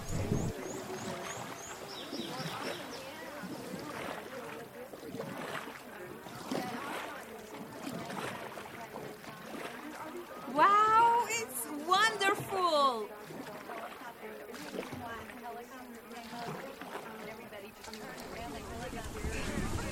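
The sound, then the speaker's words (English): A rafting boat rushes along through churning, splashing water, with a steady loud wash throughout and excited voices calling out over the noise midway. “So zip up your life jacket and sit down in your rafting boat.”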